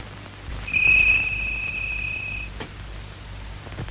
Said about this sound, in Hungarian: Az ablakot, az a büdös tücsök nem hagy aludni.